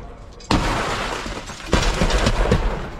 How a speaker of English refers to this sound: Piece down here, piece down there. Goes a big piece, some glass.